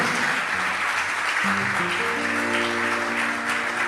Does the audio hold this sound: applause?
yes